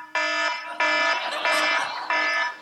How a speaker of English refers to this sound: And when she got up, there was a season that she had this one alarm that was on her phone, and it not only woke her up, it woke up anybody within our neighbor's hearing distance.